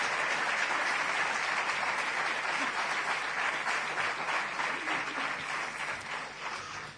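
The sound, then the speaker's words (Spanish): Sustained applause from a large audience at the presentation of the Templando a la Bravura award, dense and steady clapping filling the whole stretch, loud, slowly easing slightly toward the end. “Un fuerte aplauso para ir abriendo cartel.”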